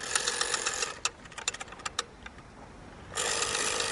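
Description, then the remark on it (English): The rotary dial of a landline phone turns with a buzzing mechanical whir, then gives a quick run of separate clicks as it spins back, before another steady whirring wind starts. No one speaks. “The term dial-up came from this rotary dial.”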